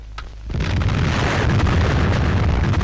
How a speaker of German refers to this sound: Am 13. Februar 1960 explodiert in der algerischen Wüste die erste französische Atombombe.